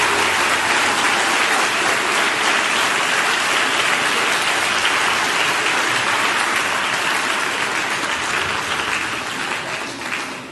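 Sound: audience applause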